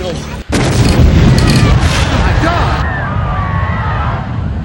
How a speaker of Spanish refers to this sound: La explosión, ocurrida a las 9 y 5 de la mañana en el puerto de Halifax, fue la más grande en el mundo causada por el ser humano. El Mont Blanc fue destruido instantáneamente en una inmensa bola de fuego que alcanzó una altura de casi 2 kilómetros,